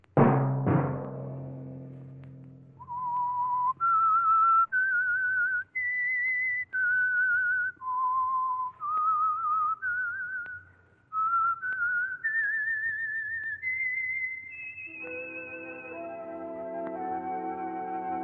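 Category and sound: signal or alarm, whistled melody signal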